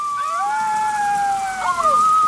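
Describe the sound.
Several children in a cabin howl together like dogs, long sustained wavering tones overlapping at different pitches, fairly loud, with a faint hiss in the background.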